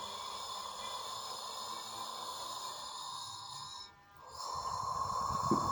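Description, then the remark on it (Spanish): Slow, deep breathing in a relaxation exercise, filling the stomach with air, rises and falls over a soft, steady ambient drone, with a brief quiet gap before a fuller, louder breath swells in near the end. “Empieza a inhalar y exhalar profundamente.”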